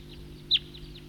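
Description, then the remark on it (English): A bird gives a short, high tooping note that stands out clearly once, with a few fainter similar notes around it over a steady low background hum. “That's the tooper.”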